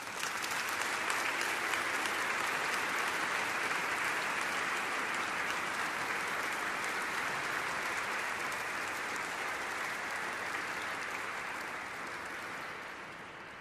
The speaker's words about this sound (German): Und als kleinen Applaus für ihn und als Ermutigung für alle Sängerinnen und Sänger klatschen wir jetzt.